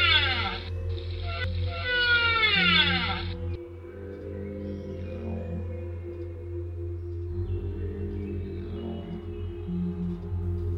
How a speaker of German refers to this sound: Diesmal antwortete der Wal sofort.